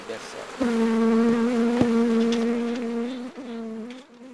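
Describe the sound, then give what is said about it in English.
Honey bees buzzing at a hive on Queensland's Atherton Tablelands, one loud droning buzz that holds steady for several seconds with slight wavers in pitch, with no voices. “Beekeeper Graham Thornton tasting honey straight from the hive on Queensland's Atherton Tablelands”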